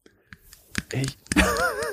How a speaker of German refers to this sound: So, ich beiß jetzt auf den Stift.